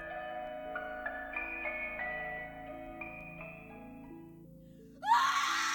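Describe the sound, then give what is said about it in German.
After several seconds of eerie, sustained tonal notes, a loud, shrill, desperate scream suddenly bursts out through the darkness and continues to the end. “Der Schrei gellte durch die Dunkelheit. Laut, schrill und voller Verzweiflung.”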